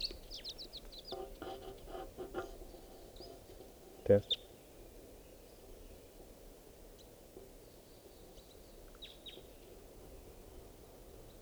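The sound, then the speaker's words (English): Faint, high chirps of a lone wild bird in flight come in scattered bursts, a quick cluster early on and a few more later, over a low, steady background murmur with a brief muffled voice near the start. “So, pointing out the wild bird.”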